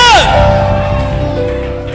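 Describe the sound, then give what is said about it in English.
An audience screams and shouts together in a loud, sustained roar, with a sharp high whoop rising above the crowd at the very start. “Can I hear somebody scream? Yeah! Scream!”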